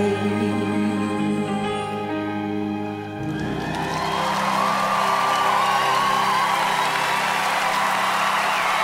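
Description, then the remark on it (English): A sustained roar of audience applause and cheering swells in as music holds its final notes, played on the radio station Joy 94.9 and cut off quickly, the crowd noise loud and dense, continuing with whoops for several seconds. “I was just listening to applause”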